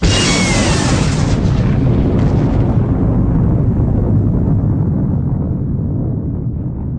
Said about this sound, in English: Within seconds, the blue beam fades away, leaving only debris from the once massive pyramid slowly settling to the ground. Seconds later, the ear-deafening roar of the explosion reaches her.